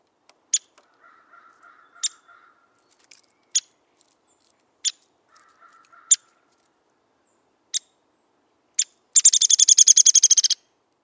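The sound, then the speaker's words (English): A Downy Woodpecker gives a series of sharp, high 'pik' calls at irregular intervals, then finishes with a rapid, descending whinny of about a dozen notes. Clear, with no voices. “Downy Woodpecker.”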